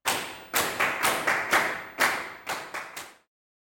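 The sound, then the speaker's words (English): Loud, sharp hand claps by several people, about ten of them in a slightly uneven rhythm, on their own with no talking, stopping abruptly after roughly three seconds. “They clapped loudly.”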